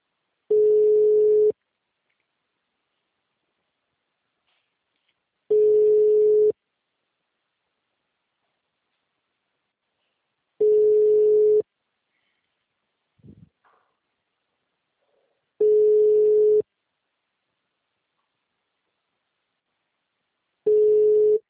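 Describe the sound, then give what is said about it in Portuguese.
A telephone line rings unanswered: five steady, mid-pitched one-second tones repeat about every five seconds with silence between, plus a faint brief rustle partway through. No one speaks. “mas atende o telefone, gente.”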